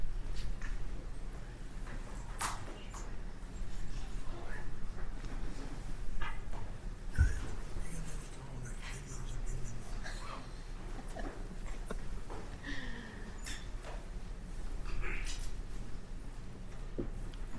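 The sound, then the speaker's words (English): Low-level bustle of people shuffling and moving about in a courtroom between cases, with scattered soft footsteps, thumps and rustles over a steady indoor rumble, and no clear speech. “Let the shuffling happen for a minute.”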